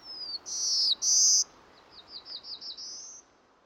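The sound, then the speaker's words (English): A songbird sings a short, bright phrase directed at its female mate: two long, loud whistled notes, then a quick run of softer rising chirps ending in a higher note, against faint background hiss. “The other type of song is more for communicating with the female, communicating with the mate.”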